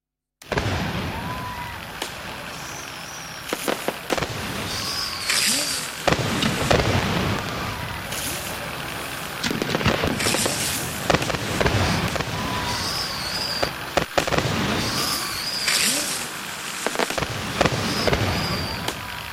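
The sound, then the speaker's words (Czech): Fireworks burst repeatedly, a steady barrage of booms and crackles with occasional whistling rockets, rolling on continuously without any talking. “My se nebudeme dívat na ohňostroj, my ho budeme poslouchat.”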